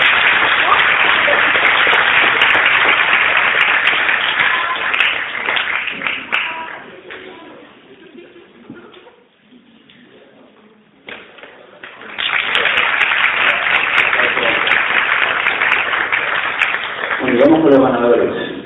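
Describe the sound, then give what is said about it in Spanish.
A crowd applauds loudly for several seconds for a prize winner at a poetry contest award ceremony, the clapping fades to a near hush, then a second strong round of applause swells up, with a few voices calling out near the end. “Un aplauso muy fuerte para ella.”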